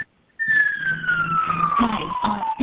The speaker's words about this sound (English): Sounds a little like a ambulance there, but now we can hear you.